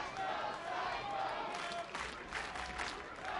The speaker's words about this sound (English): Home crowd trying to get into it here on this Monday.